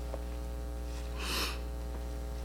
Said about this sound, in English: And I'm going to do my best not to sniffle in this microphone. I apologize. I got recovering from a little bit of a cold and a runny nose.